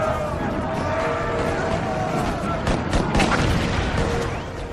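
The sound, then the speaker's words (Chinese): A dense, roaring barrage of artillery cannon fire from more than 130 Confederate guns shelling the Union center line at the Battle of Gettysburg on the afternoon of July 3, 1863. Booms overlap into a continuous rumble, with a few sharper, louder blasts near the middle before it slightly fades. “我们在刚刚的建国史话之中讲到，1863年7月3日下午，美国历史上著名的葛底斯堡战役打响了，南方邦联的130多门火炮集中火力，对北军中段防线狂轰滥炸，北军瞬间伤亡数百。”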